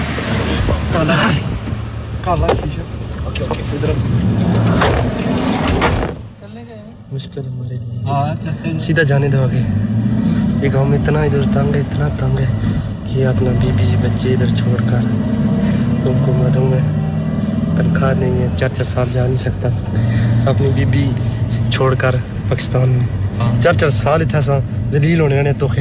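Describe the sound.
A car engine hums steadily throughout, with people, including two workers, talking inside the vehicle over the low rumble; a brief dip in the noise comes early before the drone resumes.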